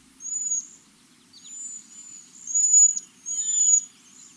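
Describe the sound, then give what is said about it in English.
High, thin, wispy whistles from a cedar waxwing, several overlapping calls drawn out in a series of faint, hissing trills with a quiet low hum underneath. “Waxwings have a very distinct, wispy whistle.”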